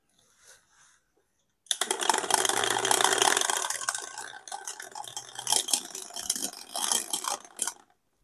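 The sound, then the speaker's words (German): A die is rolled as a stock-market oracle forecasting US share prices, rattling and clattering steadily for several seconds in a dense run of sharp clicks, with a brief lull midway before a final flurry, then silence. No one speaks. “Ich muss nachher mal prüfen, ob der Würfel manipuliert wurde.”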